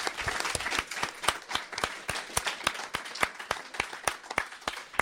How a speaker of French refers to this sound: Applaudissements renouvelés.